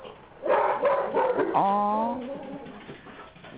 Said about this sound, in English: He really got to go. Boy, I know that bark. When a dog barks like that, you know they got to go. Yep, they got to go.